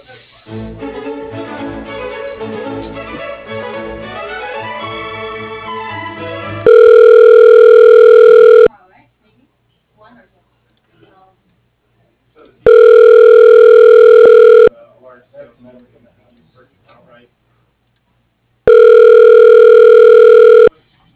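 A burst of hold music gives way to a telephone ringback as a call is transferred at Coleman Industrial: three steady, loud buzzing rings, each about two seconds long, separated by roughly four-second pauses with no talking.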